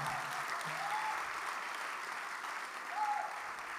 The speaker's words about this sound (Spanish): Puedes aplaudir con confianza, no pasa nada.